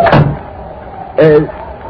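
door being opened

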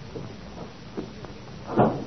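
door being closed

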